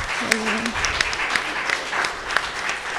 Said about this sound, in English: Let's give the Lord a big round of applause. Lass uns Gott einen Lobpreis geben.